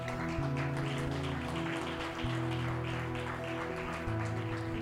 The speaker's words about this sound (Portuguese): em nome de Jesus, amém e amém, aplauda ao Senhor.